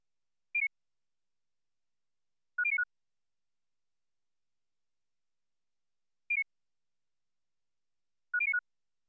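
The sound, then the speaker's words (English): Short, clean pure-tone beeps in a repeated pattern: a single mid-high tone, then a quick cluster of several tones, a two-tone target bracketed by a pair of tones of identical frequency, the whole sequence played twice with silence between. No voices. “Next, the two-tone target is bracketed by a pair of tones of identical frequencies. Again, the pattern is played twice.”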